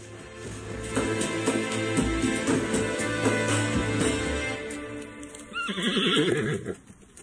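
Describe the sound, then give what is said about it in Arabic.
Hooves clip-clop steadily, then a horse lets out a loud, wavering neigh near the end before the sound fades, as soldiers bring a white horse and a black horse. “أحضر الجنود حصان إبراهيم الأبيض وحصان إسرافيل الأسود”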